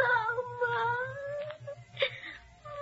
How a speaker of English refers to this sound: But he cannot silence the whimpering voice of a wounded Greek child in a hospital in Argos.